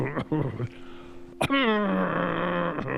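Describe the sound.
A performer on stage imitates the heavy, labored breathing of a lame old serf with respiratory disease, producing a few drawn-out groaning exhales with short catches between them, fairly loud and with no other talking.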